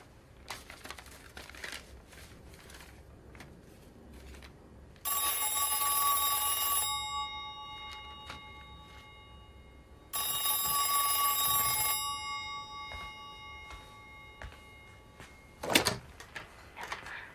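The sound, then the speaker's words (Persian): A telephone rings twice, each bright metallic bell burst lasting about two seconds, separated by a pause. A few faint clicks come before the rings and a single thump follows them, with no talking. “جواب نمیده.”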